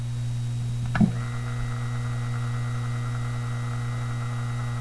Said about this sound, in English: This is a sound recording of a half-amp 1800 RPM fan motor operating on normal utility power, followed by inverters providing pure sine wave and modified sine wave output. Here is the motor running on utility power.